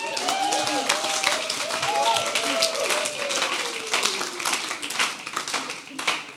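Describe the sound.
Steady audience applause, a dense wash of many hands clapping at an even level throughout, with a few voices calling out underneath.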